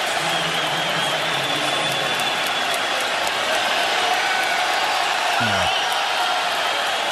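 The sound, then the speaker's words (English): A steady, dense roar of Toronto Raptors fans cheering and applauding in an arena as Kevin Durant goes down injured, a loud continuous wash of crowd noise with scattered whoops and indistinct voices mixed in. “I like to hear the fans cheering.”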